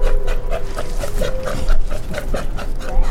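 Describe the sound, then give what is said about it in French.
An Australian sea lion calls in a rapid series of short, dog-like barks and panting grunts, loud, repeating steadily over a low rumbling background with no talking. “Pas si bête, une chronique sur le monde sonore animal. Aujourd'hui, le lion des mers australien.”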